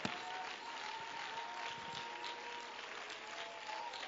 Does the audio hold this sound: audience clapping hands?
yes